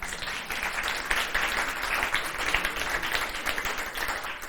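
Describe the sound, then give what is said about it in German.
An audience at the RevLab applauds steadily for an author's new book, a dense wash of many hands clapping at an even, fairly loud level for several seconds with no voices on top. “Ein Applaus bitte dafür.”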